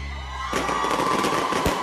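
A steady low hum gives way to a loud crackling firework rocket burst, then a second sharp bang, with cheering crowd noise underneath.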